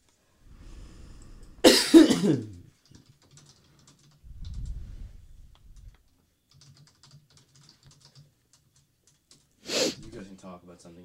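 Two sharp, loud coughs burst out, one early and one near the end, with soft keyboard typing and a low murmur in the quiet stretch between.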